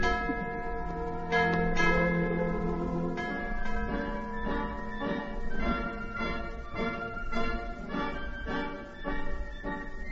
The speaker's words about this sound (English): This old bell had rung out the sounds of victory, of many wars. It had called people to their places of worship.